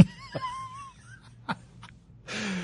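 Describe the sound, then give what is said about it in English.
A voice imitates a stifled yawn of someone fighting it with clenched teeth: a strained, wavering high whine through closed lips, a couple of clicks and gasps, ending in a breathy exhale. Fairly quiet, no words spoken. “sometimes you're talking to someone and they fight the yawn.”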